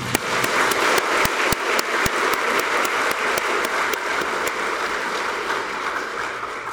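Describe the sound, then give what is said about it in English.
An audience at an Easter Vigil claps hands to express joy, a dense, sustained wash of applause with sharp individual claps popping out in a loose rhythm, steady and fairly loud throughout with no voices. “What do we normally do to express joy? We clap our hands.”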